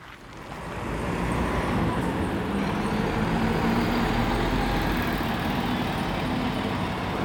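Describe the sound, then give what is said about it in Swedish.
A bus rumbles across Dalaplan, an open city square in Sweden, its low engine drone swelling in after a second and holding steady amid a wash of surrounding traffic noise. No one speaks. “Buss som boxeras över torget.”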